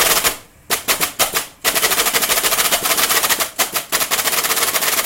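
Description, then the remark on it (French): Rapid, loud mechanical clatter of keys struck on an antique typesetting keyboard as text is typed out again after an error was corrected with tape. A few short bursts come first, then a long dense run of fast, even clicks with brief gaps and no voices. “Et je repars pour taper ça normalement.”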